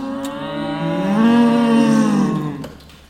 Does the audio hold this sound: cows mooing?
yes